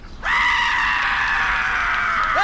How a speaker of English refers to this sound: Hey, hey, look, check this out. You're not going to believe this. Ready? It's a goat. It screams like a person.